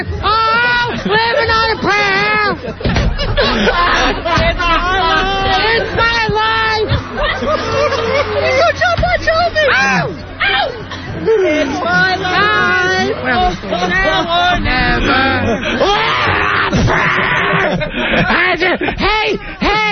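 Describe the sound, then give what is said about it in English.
A crowd of people shrieks and screams excitedly, many high voices overlapping into a loud, continuous frenzy that barely lets up for the whole stretch. “Listen to the way they scream.”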